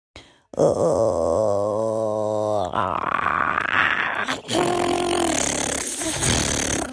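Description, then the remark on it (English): A listener's sent-in imitation of an infected zombie, starting with a long, wavering, strained moan that breaks into harsh, raspy growling and gurgling snarls, loud and continuous with no other voices. “All right, so now we're gonna go through several of you guys sent in your zombie / infected sounds, and we'll go through.”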